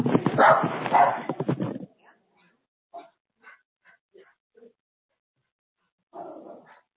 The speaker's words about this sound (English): Okay, sit down. No, no more barking. Sorry about that, guys. She's doing her job. She's doing her job.